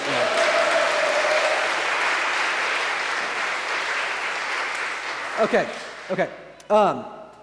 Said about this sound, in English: So you clapped last week. You can clap again if you want to.